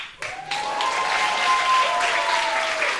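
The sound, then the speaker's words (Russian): An audience breaks into steady, dense applause that starts abruptly and holds at full strength for about three seconds, with a thin sustained whistle-like tone running through it. “Вам будут люди аплодировать вне зависимости.”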